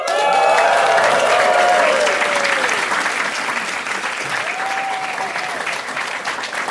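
A live audience at a recording of the Fun Facts show applauds loudly and steadily for several seconds, with a few whistles and cheers rising over the dense clapping before it eases slightly toward the end.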